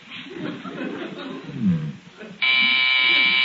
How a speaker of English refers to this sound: would you mind answering the doorbell?